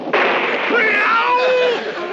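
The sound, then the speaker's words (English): A sudden lightning strike from a small local storm cloud over a house bursts into a loud thunderclap that keeps crackling and roaring for about two seconds, with faint whining tones sliding through the noise. “And lightning is one of them!”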